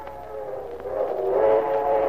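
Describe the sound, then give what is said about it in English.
The long, drawn-out whistle of the 7:45 train sounds from across the meadows, a steady tonal wail that swells slightly louder as it holds, with no voices present. “And then, from across the meadows, came the long-drawn whistle of a train, poignant, melancholy, and yet somehow expressive of excitement, adventure.”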